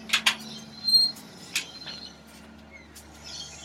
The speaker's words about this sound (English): Okay, so let me just open the screen door here.